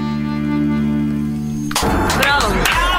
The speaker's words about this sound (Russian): Аплодисменты, аплодисменты.